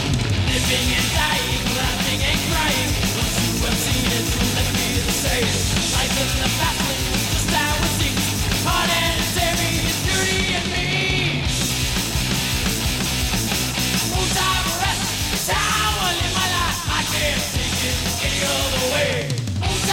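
A heavy metal band plays live on the Monsters of Rock tour, loudly and continuously, with dense distorted guitars and pounding drums filling the whole clip and a shouted vocal line cutting through in places.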